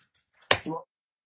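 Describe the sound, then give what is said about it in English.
A single sharp gavel strike on a wooden desk at a confirmation meeting, loud, followed right away by a brief snippet of a voice; quiet otherwise. “I banged the gavel too quickly.”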